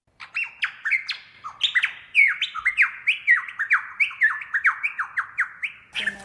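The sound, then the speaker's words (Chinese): A small tit bird sings a lively, unbroken run of bright, high chirps, many quick notes sliding downward in a steady rhythm, with no talking over it. “有一日，狼同埋熊一齐响树林里边玩啊，佢哋听见一只雀仔好开心咁响度唱歌啊。”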